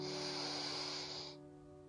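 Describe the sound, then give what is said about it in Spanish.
A single deep, airy breath drawn in as an inhale in a guided breathing exercise, a steady breathy hiss lasting just over a second before cutting off, with a faint sustained tone continuing underneath. “Vamos a hacer una respiración profunda para que sientas el momento presente.”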